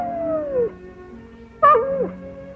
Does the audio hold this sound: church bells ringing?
no